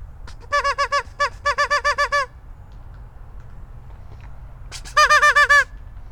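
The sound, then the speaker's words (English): A person mimics duck quacks at ducks in quick, nasal bursts: a run of rapid calls, a pause, then a short final flurry, loud over a low outdoor rumble. “Ducks are not impressed with my ability to speak their native language.”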